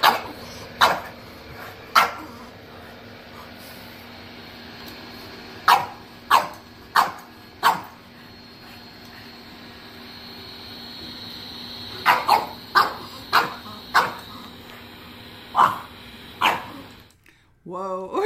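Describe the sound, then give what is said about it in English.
A dog barks repeatedly in sharp, loud single barks and quick bursts, scattered irregularly over a steady background hiss, with no one talking. “Well, that's us barking at the wind.”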